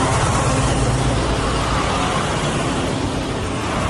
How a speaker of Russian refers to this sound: На видео с места событий также попали грузовики, на которых под брезентом вывозят груз с военной части.